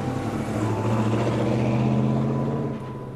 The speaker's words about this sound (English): So I help my father pack the birds back onto the crates, and the red-bearded man returns to our farm, and we load the birds, full-grown now, into his truck. The man drives away.